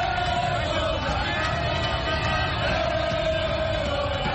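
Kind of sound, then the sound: crowd, football supporters chanting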